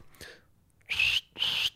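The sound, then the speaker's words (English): A person imitates a cricket's chirp with their voice: two loud, high, hissy-whistled bursts of about a third of a second each, separated by a short pause, after a faint softer attempt. “It's like, that was supposed to be cricket noise.”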